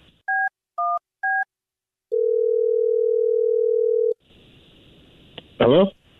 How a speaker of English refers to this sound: Well, I'm going to dial his phone number right now and see if we can figure it out for you, okay? Sounds good. All right, here we go.